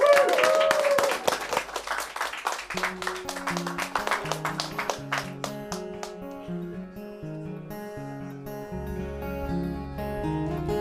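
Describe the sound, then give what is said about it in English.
An audience applauds as a four-piece band is introduced. The clapping is loudest at first, then fades under the band's opening music of steady keyboard chords and a pulsing bass line. “Round of applause.”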